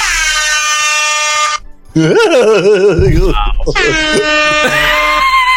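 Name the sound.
air horn blast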